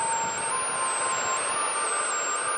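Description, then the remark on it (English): A hairdryer, used in a domestic weather experiment to imitate high winds, blows continuously with a loud, steady rushing whoosh and a thin high-pitched motor whine that wavers slightly in pitch. No one speaks. “Domestic Weather Experiment 1. High winds and hairdryer.”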